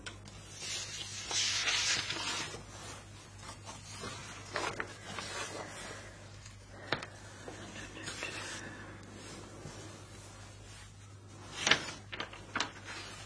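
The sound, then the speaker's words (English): Scratchy pencil strokes rub across paper in irregular bursts as a diagram is drawn, with a faint steady hum underneath and a few sharper taps and scrapes toward the end. “Use a pencil.”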